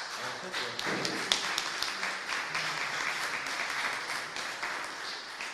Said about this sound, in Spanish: Pero también el otro motivo que decía al principio de mi intervención es felicitarnos por el regreso a nuestra ciudad de la obra, y yo quiero pedirle otro aplauso porque es un lujo tenerlo aquí, de Willy Ramos.